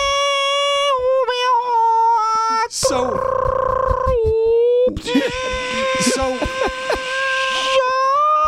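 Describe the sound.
A voice imitates the reversing sound of an orange Kia Niro hybrid car: long, steady, whining tones broken by harsh, screechy bursts like an old dial-up modem, loud and sustained for about eight seconds.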